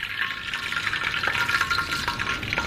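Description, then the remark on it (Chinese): Steady sizzling of chicken pieces, coated in a thin layer of egg and potato starch, frying in hot oil: a continuous bright hiss dotted with small pops and crackles, with no voices. “OK， 可以下油锅”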